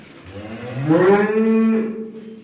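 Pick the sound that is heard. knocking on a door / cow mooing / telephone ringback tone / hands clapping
cow mooing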